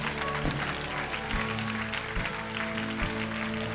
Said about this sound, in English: So proud of you guys. Come on, let's keep cheering.